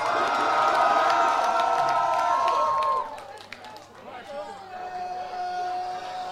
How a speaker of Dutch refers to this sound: Maar de vrijwilligers, dames en heren. De vrijwilligers. Geef ze godverdomme een hartje applaus.